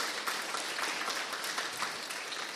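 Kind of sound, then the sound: crowd, audience applauding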